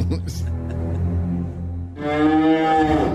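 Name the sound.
cow mooing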